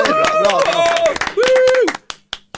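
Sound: applause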